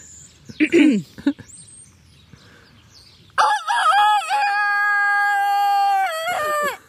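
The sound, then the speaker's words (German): A person loudly imitates a rooster's crow, one long drawn-out call held for about three seconds, after a few brief vocal sounds and a short quiet pause. “jetzt traust du dich nicht, einen Hahnschrei zu machen”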